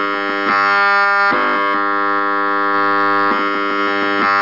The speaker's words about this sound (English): This is a cordless phone.